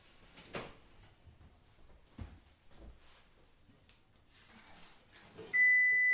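A sharp clunk of an oven door opening, then softer knocks and rustling as baked loaves of bread are lifted out to be set on a wire rack to cool, ending in a steady, loud electronic timer beep. No one speaks.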